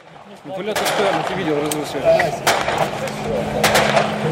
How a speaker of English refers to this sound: That's what the ceasefire sounds like here in Ukraine. Daily shelling, gunfire. One's just come right over our head and landed over there. The separatists are shelling from the distance. They're about 30 meters away.